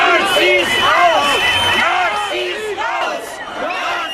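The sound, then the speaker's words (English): A counter-protest crowd of at least 20,000 in Berlin, Germany, shouting and chanting together, screaming things like "Nazis out", many overlapping voices rising and falling in loud, continuous waves that fill the whole stretch without pause. “But those 5,000 protesters were far outdone by counter-protesters who numbered at least 20,000 and screamed things like Nazis out.”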